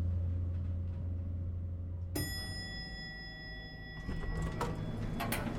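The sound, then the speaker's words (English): A low mechanical hum gives way to a bright chime, then a lift door slides open at the top floor with a rattling, scraping rush of noise as two boys walk quickly out; no voices. “Finally, the door opens and the boys walk quickly out of the lift.”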